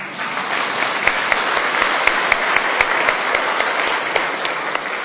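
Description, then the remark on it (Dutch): A crowd applauds after a music piece for about five seconds, a dense wash of many hands clapping together at an even level, with a few sharper individual claps standing out. No one speaks. “Zullen we klappen?”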